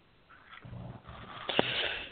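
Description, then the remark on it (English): A pet puppy sniffs in a few short, breathy bursts during a radio broadcast, with a faint high whimper and a brief sharp snort partway through, all fairly quiet and with no talking. “Ooh, that's my puppy.”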